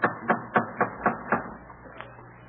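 A rapid series of six heavy knocks on a door in a steady rhythm, each one a loud, hollow thud, followed by a brief pause and one fainter tap. No voices. Parishioners knocking to see the preacher Cotton Mather in Boston on December 13th, 1707.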